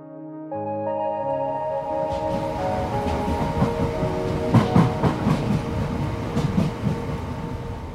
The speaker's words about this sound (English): To find out how the scheme is already affecting nurseries, I jump on the train and head to Mottingham in southeast London.